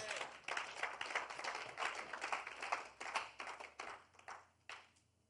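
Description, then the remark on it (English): An audience claps for the Lord Jesus in a dense, steady burst of applause, many hands overlapping for several seconds before thinning out and fading toward the end. No one speaks. “Clap for the Lord Jesus.”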